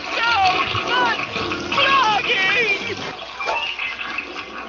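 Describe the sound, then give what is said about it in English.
A toilet flushes with a loud, steady rush of water lasting several seconds while voices murmur over the gushing noise. “Oh, you were flushing, too. Oh. It's the super toilet exploding.”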